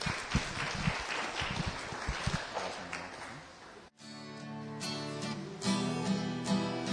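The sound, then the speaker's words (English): An audience claps steadily for about four seconds as two singers come up to sing, then the applause cuts off abruptly and sustained, melodic music begins. “Well, let's keep the applause going”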